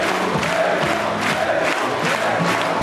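A crowd of about 1500 supporters, many in Zemmour 2022 t-shirts, chants "Zemmour président" in unison from the stands at Éric Zemmour's meeting at the Grand Palais in Lille, a loud, steady roar of many voices with a rhythmic pulse repeating every half second or so throughout.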